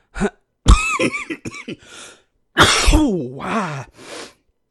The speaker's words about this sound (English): Sorry, forgot to turn my head when I coughed.